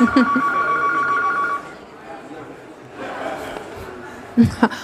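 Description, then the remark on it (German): A telephone rings with a steady electronic trill for about a second and a half, fairly loud, then stops, followed by quieter background sounds and a few short bursts. “Oh, das Telefon klingelt.”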